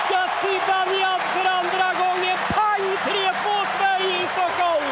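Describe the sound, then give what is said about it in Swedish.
A dense, roaring arena crowd at an ice hockey game in Globen, Stockholm, cheers continuously for the Swedish team, with whoops and scattered shouts rising above the steady din, loud throughout. “Publiken bär fram det svenska laget som såklart vill avgöra.”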